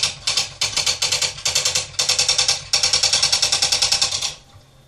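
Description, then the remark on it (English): Rapid, crisp clicking of an electronic typewriter sound effect, selected as the typing sound in a Key Talk settings menu, keystrokes rattling off in quick bursts separated by brief pauses, steady and fairly loud with no voices. “Electronic typewriter.”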